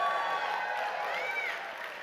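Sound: audience cheering and applause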